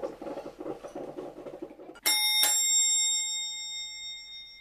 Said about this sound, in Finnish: No niin, siellä on taas ovikello. Soi.